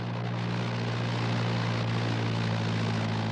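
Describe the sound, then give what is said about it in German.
A steady, loud propeller airplane engine drones continuously with a strong low hum and constant roar, with no pauses or speech. “Ich saß im Flugzeug auf dem Benzintank”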